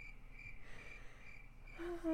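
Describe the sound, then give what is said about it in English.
Crickets chirp in a steady, continuous trill, soft, with a brief low hum rising near the end and no talking. “And the crickets.”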